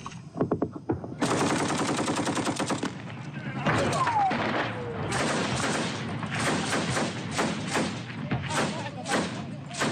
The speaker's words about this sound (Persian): ویدیوی غیر حرفه‌ای شبه نظامیان وفادار به حکومت عراق را روز سه‌شنبه در حال تبادله آتش با گروه دولت اسلامی در نزدیکی رماد به نمایش گذاشت.